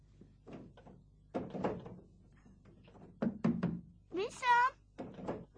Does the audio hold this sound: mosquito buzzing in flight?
no